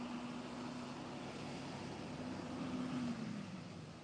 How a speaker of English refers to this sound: Out here in East County, they got these big trucks going out all the time.